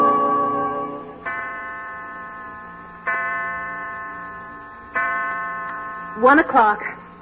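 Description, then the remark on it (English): A clock chimes three times, each ringing tone struck about two seconds apart and fading slowly, then a brief warbling, wobbling burst suggests the mechanism going wrong. “Oh, I do wish your father would fix that clock.”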